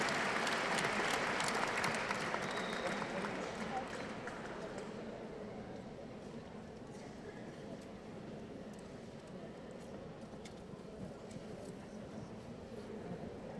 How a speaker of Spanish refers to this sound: Un aplauso para el compañero